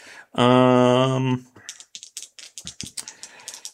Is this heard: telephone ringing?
no